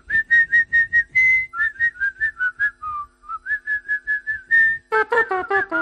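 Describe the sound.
Someone whistles the jingle tune of the Panini Adrenalyn trading card game: a quick run of bright staccato notes with a few held tones. It ends in a fuller, busier burst, as if more whistlers join in.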